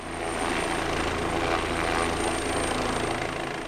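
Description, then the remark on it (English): Helicopters' rotors thump and roar steadily as they scoop up water from a nearby pond, under smoky skies over charred black fields. The sound is loud and continuous for the whole stretch, with a broad engine wash and no voices. “Smoke blankets the sky, and it's impossible to escape the noise of helicopters scooping up water from a nearby pond.”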